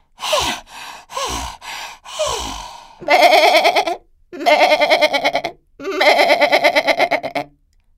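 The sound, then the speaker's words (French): A goat in a stable bleats: three short, breathy calls followed by three long, loud, quavering bleats with a rapid wavering tremble, each separated by brief pauses. No talking. “L'histoire ne dit pas si l'ogresse a mangé la chèvre ou si elle lui a laissé la vie sauve.”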